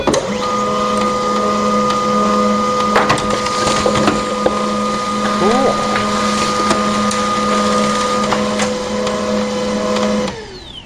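A home laser printer, recorded with an Olympus recorder, runs through a single page: a steady mechanical hum with a low drone, plus occasional clicks and whirring shifts, stopping abruptly near the end. Fairly loud, no voices.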